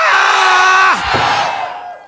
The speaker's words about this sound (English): Now give a quick courtesy yell on the count of three. Ready? One, three.